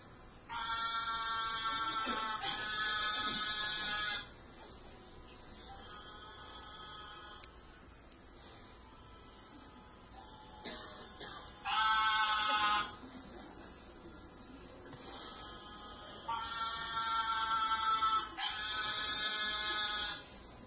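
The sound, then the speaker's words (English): Narrow-mouthed toads giving their mating calls: a series of long, nasal, buzzing bleats, each lasting a second or two, rising and falling in loudness with short pauses between them. “This is the mating calls of the narrow-mouthed toad.”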